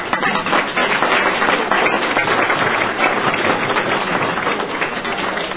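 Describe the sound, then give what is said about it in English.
An audience applauds a speaker a second time, many hands clapping steadily into a dense, crackling wash of sound that holds an even loudness for several seconds, with no voices heard over it. “And we've already given her applause, but let's do it again.”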